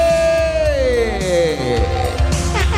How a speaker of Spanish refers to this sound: Fuerte aplauso para Jay Nalbarte.